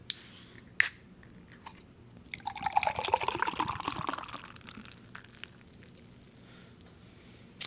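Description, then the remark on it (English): Beer glugs and splashes from a can into a glass from Grimm for a couple of seconds, fairly loud, with a fizzy foaming hiss trailing off afterward. A sharp clink comes near the start, another at the very end. “But this is going in it right now.”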